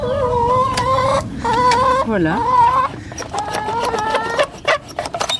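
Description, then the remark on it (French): Hens cluck and murmur in a busy cluster in their coop, rushing toward a person entering, their wavering calls overlapping continuously while the person speaks briefly over them. “Et donc on peut rentrer. Les poules se précipitent déjà.”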